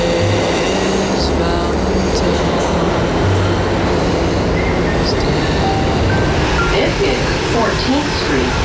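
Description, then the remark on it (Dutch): A subway train rumbles loudly through the Union Square metro station near Broadway, with dense mechanical roar, faint squealing wheels and scattered tonal whines, while indistinct voices murmur underneath the din. “En ik ben op het metrostation Union Square.”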